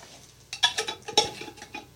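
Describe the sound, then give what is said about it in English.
A spoon scrapes and clinks against the sides of a jar while stirring a thick dough mix of flour and water, making quick, irregular rattling knocks, with no one talking. “Now he's starting to stir the mix and it all up.”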